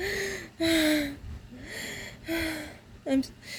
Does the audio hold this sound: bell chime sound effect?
no